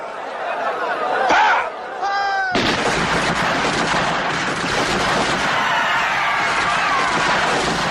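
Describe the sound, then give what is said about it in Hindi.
A brief shouted order to fire, then a sudden burst of dense rifle gunfire from lined-up Gurkha and Baluchi troops fills the scene, loud and continuous, deliberate targeted fire into a dense crowd of 15,000–20,000 people in a six-acre garden, with the crowd's panicked commotion mixed underneath. “Dyer ने बिना किसी चेतावनी के वहां पहुंचने के 30 सेकंड के भीतर चिल्लाकर आदेश दिया, फायर।”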